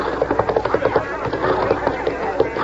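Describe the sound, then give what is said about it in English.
Hooves of a loose piebald horse clip-clop in a quick, steady rhythm of sharp knocks, moderately loud, continuing throughout with a busy background murmur. “Watch out there. Loose horse.”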